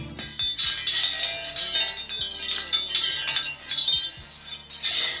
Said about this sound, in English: What in the world was that noise? Did you like that? That was kind of different. That was a wind chime. A new, not a new wind chime. It's not new. We've had it for a long, long time. It came apart at one time, and it's been laying in the garage,